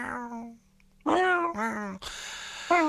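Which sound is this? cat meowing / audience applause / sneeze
cat meowing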